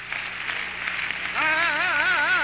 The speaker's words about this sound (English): Let's clap our hands unto Jesus. Give Him glory and honor.